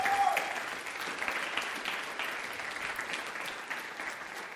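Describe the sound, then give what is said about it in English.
A crowd applauds a young woman called down front, a steady, dense wash of many hands clapping at a fairly even level for several seconds, with no distinct voices standing out. “Everybody applaud this young woman.”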